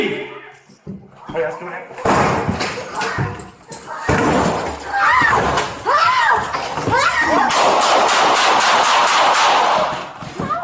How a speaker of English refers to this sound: So the Albuquerque police released the video. It's an officer involved shooting. It happened in late September.